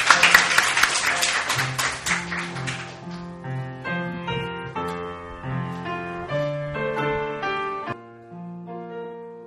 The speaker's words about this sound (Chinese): 给个大的掌声我们的上帝， 给个大掌声我们的天父。